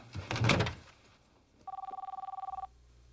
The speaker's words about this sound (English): That's my cell phone. It's in my jacket pocket.